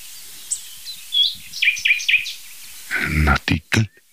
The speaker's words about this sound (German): Nachtigall. Der hat schon wieder aufgehört.